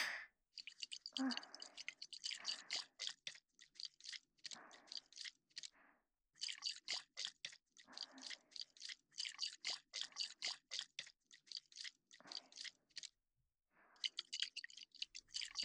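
Slick, wet squishing of baby oil being worked between hands, a dense run of rapid sticky squelches and clicks in bursts with brief pauses, fairly soft and with no voices.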